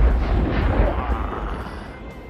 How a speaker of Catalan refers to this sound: Vinga, Raül, regala'ns una explosió.